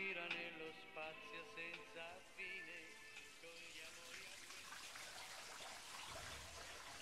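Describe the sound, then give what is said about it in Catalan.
Water gushes steadily from a tap into a bathtub, a continuous rushing hiss that grows fuller and splashier over several seconds, with a squeaky whine at the start. “No posis més aigua,”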